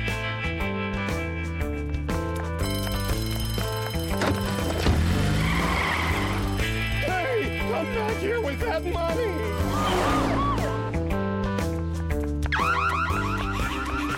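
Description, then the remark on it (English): A car revs and accelerates loudly with screeching tire squeals, set against a busy, continuous musical backdrop that runs the whole time, with no one speaking. “Hit the gas!”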